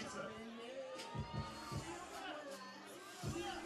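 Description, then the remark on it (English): A large crowd at an outdoor pizza eating championship, packed into a tent in a parking lot in Old Metairie, fills the air with steady chatter and overlapping voices, a dense hubbub with a few brief swells, heard from within the gathering at moderate volume. “Yeah, no, a packed house here in the parking lot. We got the tent. It's like a festival.”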